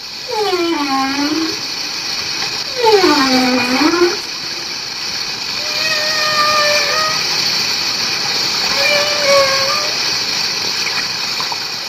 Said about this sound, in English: From our clifftop posse, we can hear the hissing, sighing, and the incredible singing as these huge marine creatures communicate.